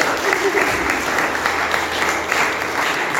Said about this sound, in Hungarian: Szerintem tapsoljuk meg a gyerekeket.